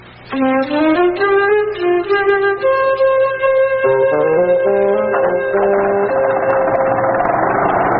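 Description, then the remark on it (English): A car engine turns over and catches, then runs loudly with a rising and falling whine as it revs, settling into a rougher, noisier idle toward the end. No one speaks. “So put those disgusting toadstools down and come and start the car for me.”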